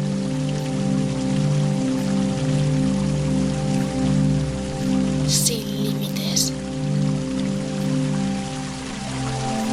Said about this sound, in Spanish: Ahora enfoca tu mirada en el agua de la fuente.